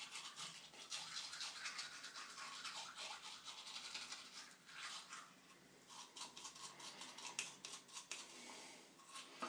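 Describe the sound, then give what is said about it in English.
A manual toothbrush scrubs teeth in quick, continuous back-and-forth strokes, a steady wet bristly rasp lasting throughout with slight rhythmic surges and no voices. “Now, the next thing you'll hear will be the sound of teeth being washed.”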